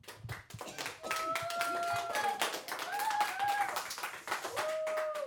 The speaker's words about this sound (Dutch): Geef ze een heel groot applaus, de vier debaters van vandaag.